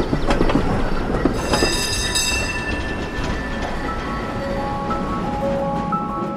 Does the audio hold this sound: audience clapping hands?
no